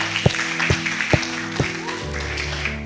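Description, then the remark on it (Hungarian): An audience applauding people after a prayer, clapping in four sharp, evenly spaced beats, then fading, over a steady sustained musical tone that continues to the end. “Szerintem tapsoljuk meg azokat az embereket.”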